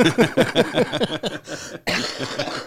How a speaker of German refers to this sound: Da ist er, sorry, der Husten. Ja, da ist er, der Husten.